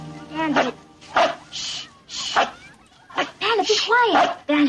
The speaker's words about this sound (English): And Bandit sees them and starts barking at them, which is just hilarious, I think.